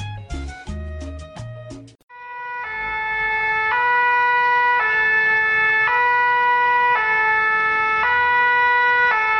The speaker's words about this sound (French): Les pompiers. Les pompiers. Un camion de pompiers.